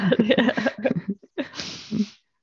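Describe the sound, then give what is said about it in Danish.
A short burst of voiced, nasal sounds, then a brief pause and a breathy, rushing blast of air as a man blows his nose into a paper tissue, moderately loud. “Ja, han havde papir. Snotte, eller hvad det hedder.”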